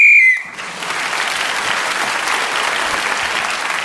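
A short, shrill whistle blast sounds at the start, blown to end a round of a game, then is immediately swept up by a steady wash of audience applause that carries on to the end.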